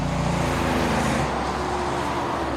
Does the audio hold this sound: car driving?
yes